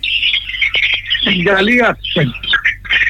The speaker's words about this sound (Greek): Α, τα πουλιά όμως ακούνται πολλά έντονα.